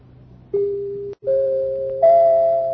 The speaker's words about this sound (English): Those are only the three chimes. What? Three chimes. The three chimes a year an Autolite State full battery needs water in normal car use.